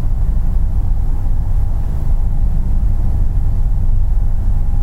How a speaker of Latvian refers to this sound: Šī ir skaņa, noskaņa, kas dzirdama mazā pamestā pilsētā Beļģijā, kuru apvij ļoti neparasta aura. Tā ir kā asa sižeta filmai speciāli izveidots kino ciemats. Tukši, pamesti, salīdzinoši jauni nami, visi ar grafītī zīmējumiem, asfaltētas ielas, ietves